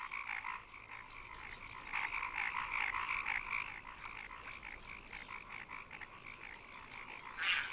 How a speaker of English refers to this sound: As evening approaches, an age-old ritual unfolds. It's the mating season, and male paddy frogs are competing for the attention of the females.